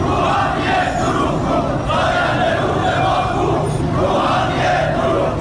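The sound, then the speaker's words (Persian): A large crowd of protesting farmers chants slogans in unison against the transfer of their Zayandeh Rud river water to Yazd, voices rising and falling in repeated rhythmic bursts, loud and dense throughout with no single speaker standing out. “سال اعتراض‌های شهروندان به بی آبی و مدیریت نامناسب آب و انتقال آب از استانی به استان دیگر، از خوزستان گرفته تا فارس و اصفهان، با کشاورزانی که در اعتراض به انتقال آب زاینده رودشان به یزد دست از اعتراض و تجمع و شعار بر نداشتند.”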